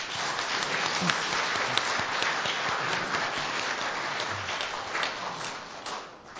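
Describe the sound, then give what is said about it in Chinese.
Sustained applause from a church audience thanking a visiting pastor, a dense, even wash of many hands clapping at steady loudness for several seconds before tapering slightly at the end. No one speaks. “让我们一起用掌声来谢谢他。”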